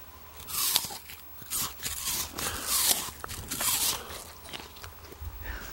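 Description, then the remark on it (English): A crisp apple crunches right up close to the mic, one bite followed by several seconds of wet, crackly chewing in bursts, loud and with no talking. “Do you want to have the listeners at home hear what a crunchy apple sounds like? Get really close to the microphone and chomp that apple.”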